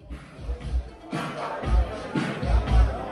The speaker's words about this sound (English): A crowd of well-dressed men and women line up to get into GI Disco. It's a popular club night held at a posh Berlin bar.